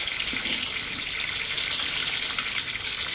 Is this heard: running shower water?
yes